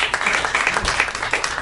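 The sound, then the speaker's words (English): A stand-up comedy audience claps and cheers in a brief burst of applause when asked to clap if they saw the film The Help, a dense patter of many hands at moderate loudness, steady throughout with scattered sharper claps standing out. “clap if you saw The Help.”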